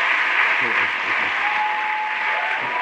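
A crowd of 425 students on their feet applauds loudly and steadily after their teacher sang to them in class, a dense wash of clapping mixed with cheering voices that holds at a constant level throughout without letting up.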